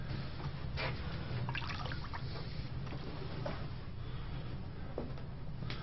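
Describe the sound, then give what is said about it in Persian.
Water pours steadily into a glass, a continuous splashing trickle that runs unbroken for several seconds, with no voices. “مریم لیوان آب بیار.”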